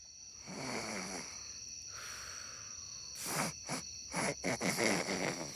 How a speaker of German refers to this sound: Antonia und Emma, die noch wach lagen, hörten schon bald leises Schnarchen.